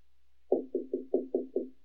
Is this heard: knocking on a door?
yes